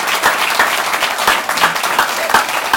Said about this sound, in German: Genau, wir sind ja nicht alleine. Vielleicht können Sie sich alle mal klatschen oder erheben, damit auch alle hören, dass wir... Genau.